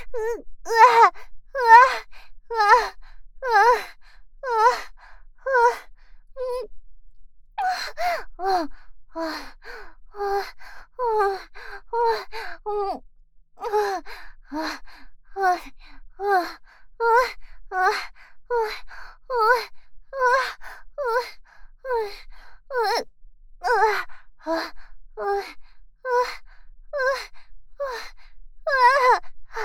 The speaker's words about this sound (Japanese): ちゃんの息遣い聞こえるぞ。